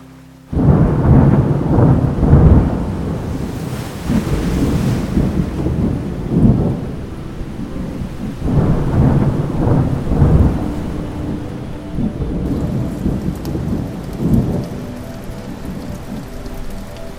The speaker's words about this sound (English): As you continue to walk, it begins to rain, first lightly, then heavier, as you begin to run, while looking for shelter around you.